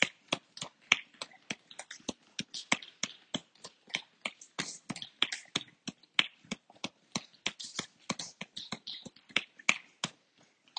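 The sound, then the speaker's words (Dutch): A hand firmly and rapidly taps the sole of a foot, dozens of crisp slaps in a brisk, fairly steady rhythm for about ten seconds, with no voices. “En klop je stevig de zool van de voet.”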